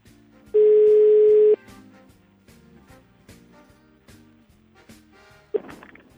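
A loud, steady telephone tone sounds for about a second while a call is being placed, over soft background music, then a shorter tone burst cuts in near the end.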